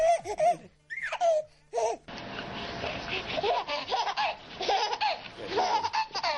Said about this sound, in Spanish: Este es uno de los vídeos más vistos en YouTube. Bebés descarajándose vivos de risa con perros, que es muy curioso cómo reaccionan. En lugar de tenerles miedo, como muchos adultos, ellos se lo pasan de maravilla.